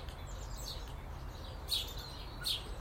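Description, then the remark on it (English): Two short, sharp blackbird calls ring out about a second apart over a steady low outdoor rumble, clear against the quiet garden background. “So I watch Miss Blackbird. No, I think she's Mrs. now.”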